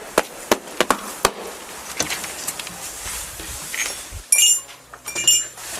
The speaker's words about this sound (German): Auch mehr so eine unspektakuläre Türklingel, ne?